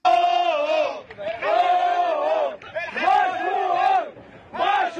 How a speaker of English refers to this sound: Those are the joyous sounds of the tugboat bros who successfully dislodged the Ever Given, the ship, from the Suez Canal.